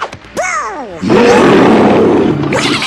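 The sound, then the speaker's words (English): The Beast, entering at the House of Mouse, gives a harsh, growling roar that opens with a rising-falling snarl, then swells into a loud, sustained, rumbling bellow lasting about two seconds before tapering off. “Oh boy, somebody in a scare. Beast enters.”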